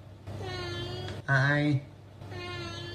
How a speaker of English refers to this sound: The Northern Irish cat's quite, if you didn't catch it the first time, somebody put it up there somewhere, and it's just a cat that sounds like he might be from Northern Ireland.